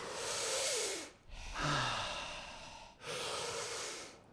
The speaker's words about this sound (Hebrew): כל נשימה, מכניסים פנימה את כל הדברים הטובים שיש לעולם להציע לנו, ובשחרור, משחררים את כל מה שלא משרת אותנו יותר. מעולה. להרגיש איך הגוף מתרחב, שלהכניס עוד יותר אוויר בכל נשימה, בדיוק.